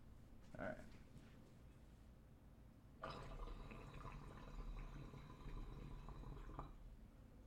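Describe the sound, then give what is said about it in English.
A steady, gurgling bubble of water through a large glass bong as someone pulls on it runs for about three and a half seconds, moderately loud, after a brief soft knock and some quiet rustling. “But I'm going to pull on it to at least show you the water movement and see this thing in action.”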